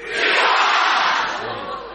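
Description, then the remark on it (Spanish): A crowd shouts a loud cheer of "¡Viva!" together in unison, answering the call "¡Viva el León de Francia!", a broad roar of many voices that swells quickly, holds for about a second, then eases slightly while staying strong. “¡Viva! Suena fuerte, pero se escucha.”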